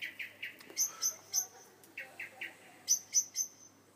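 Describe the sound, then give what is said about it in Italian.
A bird of paradise sings alone, with bright, clipped notes in quick groups of three: lower whistled calls alternating with sharp, high chirps. The singing is moderately loud. “Una mattina di primavera, la principessa stava passeggiando nel suo giardino quando udì un canto meraviglioso.”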